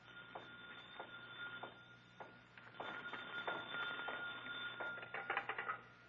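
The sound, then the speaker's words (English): A desk telephone on a night watchman's desk in a museum's Egyptian hall rings shortly past midnight with a rattling bell, sounding in short repeated bursts that grow busier toward the end, over a steady low hum, with no one speaking. “Suddenly, a phone rings on the desk of the night watchman, rings and shatters the silence of this modern tomb of ancient art.”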